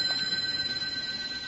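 A telephone on a desk rings with a steady, high-pitched trilling tone that holds unbroken for the whole moment, fairly soft and with no voices over it.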